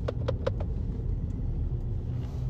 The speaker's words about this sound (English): This car just ran a red light. Stupid ass. Stupid asshole.